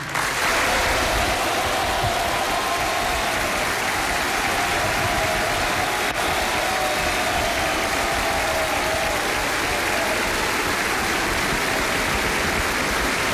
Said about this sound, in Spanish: Un aplauso atronador se escucha en el Salón de Honor mientras José Antonio Kast comienza a hacer ingreso al salón, caminando por el centro, asintiendo.